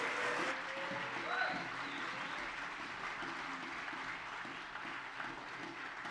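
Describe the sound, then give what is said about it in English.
A church audience breaks into sustained applause welcoming a guest pastor as he comes up, a dense wash of clapping that holds steady for several seconds, with a few faint voices and cheers mixed in. “Let's give him a warm welcome as he comes.”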